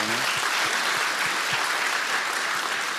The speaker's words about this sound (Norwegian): Så fint. Ja, applaus.